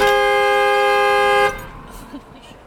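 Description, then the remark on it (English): The horn of a beat-up old Ford Explorer, parked in front of an elementary school, blares when the car is turned all the way off, in one steady, sustained, loud honk for about a second and a half, then cuts off, leaving faint background noise. “So if you turn your car all the way off, it just starts honking?”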